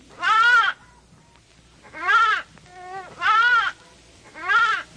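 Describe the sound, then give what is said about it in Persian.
A lost little lamb bleats four times in a row at night, each cry loud and quavering, with short pauses between them and no other voices around. “ناگهان شب فرا رسید و بره کوچک گم شده و بسیار هراسان گردید.”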